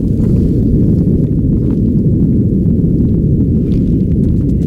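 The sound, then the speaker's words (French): A deep, continuous low-frequency rumble roars steadily without pause, a dense churning boom from an underwater earthquake captured by an American hydrophone lowered 11 km deep into the Mariana Trench in the Pacific Ocean, near Micronesia, with faint crackles flickering above it. “Communication entre mammifères, sous-marins, moteurs de bateaux ou encore tremblements de terre comme celui-ci.”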